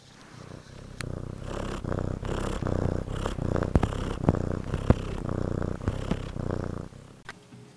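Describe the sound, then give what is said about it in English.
A cat purrs steadily in a Pinecone Radio promo, a low rumbling drone that pulses in a regular rhythm with each breath, with a few faint clicks, and no voices. “Happy cats listen to Pinecone Radio.”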